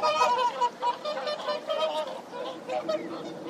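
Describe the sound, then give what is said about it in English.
Swans honk repeatedly in a busy, overlapping chorus of nasal, mid-pitched calls, fairly loud and continuous throughout, with no talking. “I don't understand your honks.”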